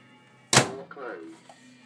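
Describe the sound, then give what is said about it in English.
A sharp click of a microwave oven door popping open, followed by a brief soft clatter as food to be melted is set inside, with a faint voice-like murmur underneath. “Door open. In with that.”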